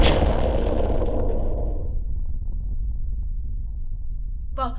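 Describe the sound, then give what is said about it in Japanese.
A heavy explosion bursts at the start and trails off into a long, low rumbling decay, with a brief high-pitched electronic tone at the very end. “爆発音です。”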